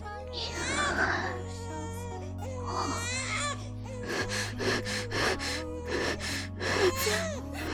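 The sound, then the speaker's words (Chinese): A baby wails loudly in repeated cries, with gasping breaths between bursts and short choppy sobs later on, intense, over a low steady hum. “婴儿顿时哇哇大哭起来”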